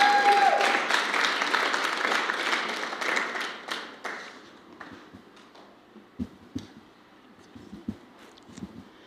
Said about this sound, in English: So let's give our beautiful Pastor Vicky a great big round of applause.